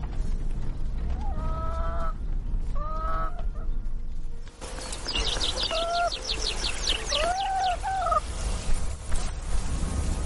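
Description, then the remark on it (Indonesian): Chickens on a farm calling, with repeated clucks and warbling calls in short bursts. A dense, louder flurry of chatter joins midway against steady barnyard background noise, with no talking. “Satu-satunya musik pendukung film itu adalah suara alami hewan-hewan itu di peternakan.”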